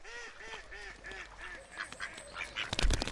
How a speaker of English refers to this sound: "Oh, look how ugly he is," said the wild ducks, landing on the water and laughing at the ugly duckling in a mean and nasty way.